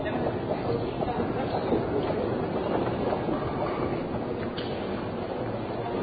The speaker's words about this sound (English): Okay, we're on the actual subway platform now.